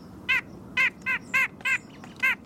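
A white-breasted nuthatch gives six nasal, evenly spaced calls, each a short, harmonically rich honk in a steady repeating rhythm, clearly audible over a low background rumble.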